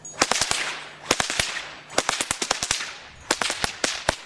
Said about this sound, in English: He got it out and he cracked the whip once